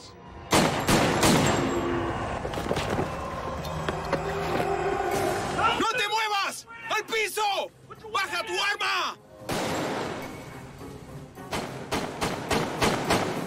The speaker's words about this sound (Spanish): Escuché la grabación de la cinta y los disparos fueron sucesivos. Pero en ese momento parecía que había tal vez 1 o 2 segundos entre los disparos reales.